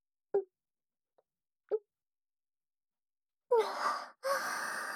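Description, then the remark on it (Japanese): Someone drinks a fizzy carbonated soda after a toast: two short, separate gulps with a faint click between them, then a long breathy exhale with a brief break partway through. “ああ先輩、またこの炭酸ですか？ほんと好きですよね。”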